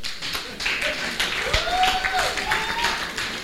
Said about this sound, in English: Businesses take time. Yes, that's worth clapping for. Clap.